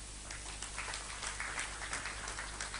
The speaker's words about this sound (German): Ich bitte um einen kleinen Applaus für ihn.